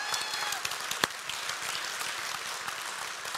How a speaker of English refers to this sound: I just sense that there's a lot of us, myself included, wanted just to give God a round of applause for the praise this morning. So go ahead.